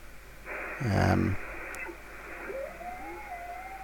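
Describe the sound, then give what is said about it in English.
Radio receiver hiss swells up, with a short rough burst of noise, then a thin whistling Morse code tone slides into place and holds, wavering slightly in pitch as the set is tuned to the Morse code signal. “So if I just go to, I'll try and get a bit of Morse code, for example, if we can.”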